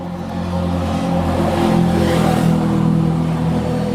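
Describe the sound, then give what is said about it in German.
A quad bike engine revs steadily, its throaty hum rising slightly in the middle as it passes, then holding loud and constant to the end, with no voices. “Das war ein Quad.”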